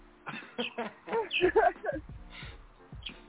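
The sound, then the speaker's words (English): A bird calls loudly and insistently, a rapid, irregular burst of sharp chirps and whistles that rise and fall in pitch, with brief pauses between. “damn, that bird going like crazy.”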